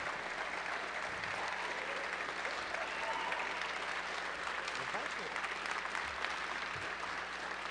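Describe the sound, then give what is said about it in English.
An audience applauds steadily for several seconds, a dense, even wash of many hands clapping at a constant moderate loudness with no clear break or single voice rising above it. “No applause, just money, please.”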